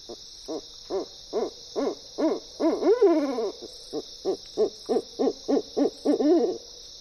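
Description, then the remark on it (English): An owl hoots in a steady, rapid series of short calls, broken midway by a longer wavering note, clear over a constant high-pitched insect-like hiss. “Owls even help control pests like non-native rodents where people live, all without traps or poison. And they lend their music to our nights.”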